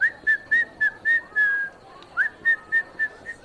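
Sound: person whistling a tune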